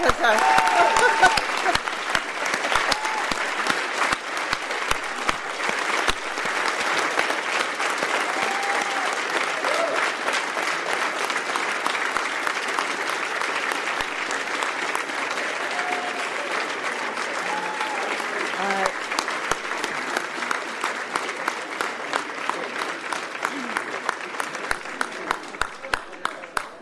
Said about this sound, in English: All right, ladies and gentlemen, you want to hold up these documents that you have signed here and get a round of applause, please.